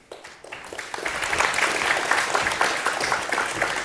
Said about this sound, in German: Zweimal Applaus ohne Anfang, nicht schlecht. Ja, dann braucht man nachher keinen mehr.